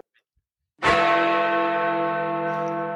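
bell ringing

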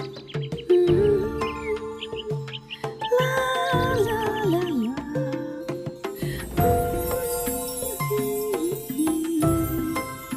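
little bird singing

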